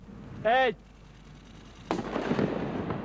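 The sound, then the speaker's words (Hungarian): A firecracker, placed by police bomb disposal experts in the hand of a hard plastic shop-window mannequin and set off by remote control, goes off with a single sharp, loud bang, followed by a crackling, rumbling tail that lingers. A brief rising-and-falling tonal cry is heard shortly before the blast. “A tűzszerészek egy kirakati bábú kezébe petárdát tettek, amit távirányítással hoztak működésbe.”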